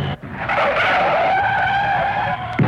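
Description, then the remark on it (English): A car skids hard and goes straight into a ditch, its tires letting out a loud, sustained squeal for a couple of seconds before cutting off abruptly with a short thump at the end. No voices. “Flipping heck, that car, he's gone straight into the ditch.”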